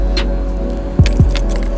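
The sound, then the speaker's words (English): Car keys jangle and clink in a few quick bursts, with a couple of soft thumps, over a steady low rumble like an idling car. “Find the car key.”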